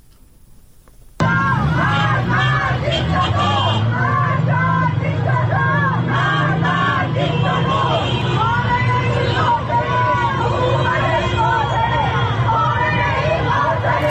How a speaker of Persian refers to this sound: بنابر گزارش‌های رسیده به رادیو فردا، به دنبال انتشار خبر جان باختن مهسا امینی، تجمع‌های اعتراضی در نقاطی از شهر تهران برگزار شد. در این اعتراض‌ها شعارهایی علیه مقام‌های حکومتی سر دادند.